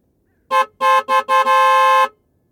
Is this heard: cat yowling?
no